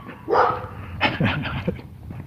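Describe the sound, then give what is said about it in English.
A Scottish terrier barks outdoors on a street in the morning: one sharp bark, then a quick run of higher yips and whines after a short pause, with no one speaking. “Oh, here comes my friend with a Scotty dog.”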